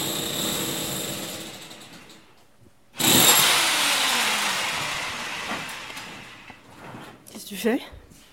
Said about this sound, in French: Des trous. Je fais un trou pour passer un câble réseau. Je vais aller du modem à internet à de l'étage à rez-de-chaussée.